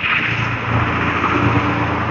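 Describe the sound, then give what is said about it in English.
A pickup truck with a really loud muffler roars steadily in a neighborhood, a throaty low engine drone with a gritty muffler rasp, holding at a constant level with no speech. “It was just some guy with a really loud muffler on his pick-em-up truck.”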